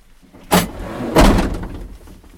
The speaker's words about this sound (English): You guys will slide away from the door, I'm going to pop the doors open, and I'll come down and join